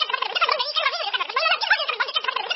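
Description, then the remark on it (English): Turkeys gobble in a dense, overlapping chorus of rapid, warbling calls that rise and fall continuously, fairly loud and with no speech. “Okay, you just threw me in the middle of my worst nightmare because I have a fear of birds.”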